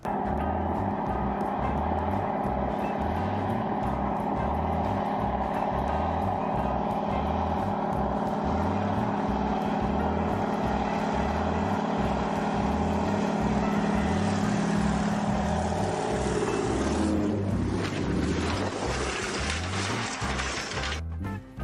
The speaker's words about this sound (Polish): Wszystko wskazuje na to, że pilot nie nabrał wystarczającej prędkości, zanim pociągnął za wolant, aby wystartować, przez co samolot miał jeszcze większy problem, aby oderwać się od tafli wody, przez co nie mógł się wznieść.